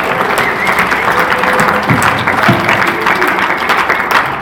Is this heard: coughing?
no